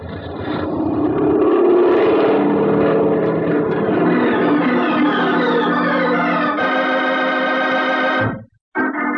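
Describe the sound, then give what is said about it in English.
A small airplane's engine roars and climbs in pitch as the pilot opens the throttle, a loud steady drone with rising harmonics, then cuts briefly near the end before resuming, as the plane climbs back into the sky toward San Mateo airport without its wheels touching the ground. “Okay, then I'm going to give it the gun.”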